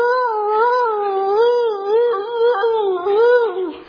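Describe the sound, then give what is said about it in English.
A person imitates a dog's howl, holding one long, wavering, mournful note that rises and dips in pitch for about four seconds. It is loud, with no other sounds. “And the dog continues,”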